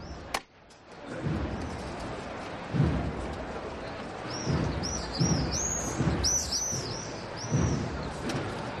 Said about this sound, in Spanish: Y qué bonito el sonido de los vencejos que tenemos en la Plaza de la Campana. Ponen también la banda sonora en esta tarde que va poco a poco languideciendo, que se va apagando, va desapareciendo el sol.